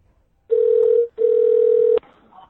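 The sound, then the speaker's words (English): A telephone line tone sounds twice while someone calls a person back, two long, steady electronic beeps separated by a brief gap, loud, with no talking, followed by a faint soft noise. “Let me get back here and try to get this guy, get Tyler called back.”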